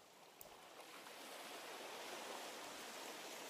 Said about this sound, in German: Du bist nun mit deinen Füßen an dem sanften Ufer, wo der Sand ganz flach ist und nass ist, angekommen. Und in diesem Moment umspült eine kleine Welle deine Füße mit dem salzigen Meereswasser. Schau hinab zu deinen Füßen. Und die nächste Welle kommt.